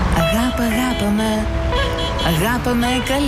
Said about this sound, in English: And to make it really authentic, we put her in the Stuttgarter traffic. You know, we put her in a tent right next to the Autobahn here.